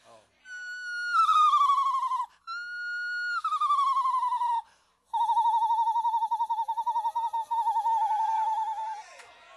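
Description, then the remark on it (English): A voice imitates a screech owl: two descending, quavering whinnies followed by a long, steady wavering trill, high-pitched and fairly loud, with no other talking. “Do that one whippoorwill thing. It's called a screech owl, baby.”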